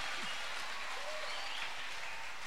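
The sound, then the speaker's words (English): A crowd claps and applauds together, a dense, continuous wash of hand claps at steady volume, with a faint voice or two barely audible beneath. “Let's clap for them.”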